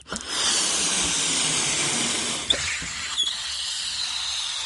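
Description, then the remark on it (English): A steady, fairly loud rush of air hisses continuously for several seconds out of a balloon fixed over a cardboard tube on a CD hovercraft, holding the CD aloft above a tabletop, with a couple of faint clicks or knocks near the end. “The CD was held aloft above the tabletop by the balloon for the time you heard it going down, and it was just literally floating around, and you could actually knock it around.”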